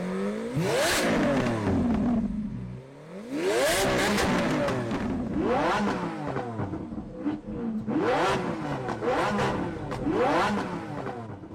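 A car engine roars up loudly, climbing in pitch through several rising sweeps as it accelerates through the gears, with no voices.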